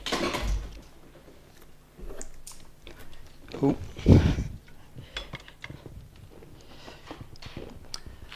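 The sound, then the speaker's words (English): Water is knocked over in a pulpit: a glass clatters and thumps, with a loud bump midway and scattered small knocks and rustles before and after, no one speaking. “Knocking water over is not unprecedented in this pulpit.”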